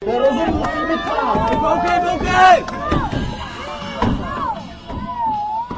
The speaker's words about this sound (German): Die meisten Leute drängten sich jedoch vor dem Podium, auf dem sich der Wettbewerb der Holzsportler abspielte. Das tschechische Team, dem auch ein Europameister angehört, wurde vom Publikum lautstark unterstützt.